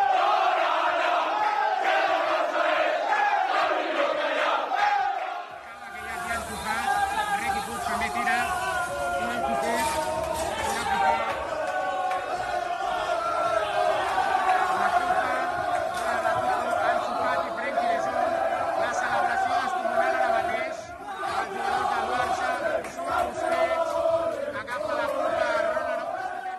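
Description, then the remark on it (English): The Barcelona football squad chants together in the dressing room after beating Athletic, with President Joan Laporta front and centre: a loud, continuous group of raised voices with rhythmic shouting and cheering that swells after a brief lull about five seconds in. “First, you heard the Barca squad chanting in the dressing room, President Joan Laporta front and centre”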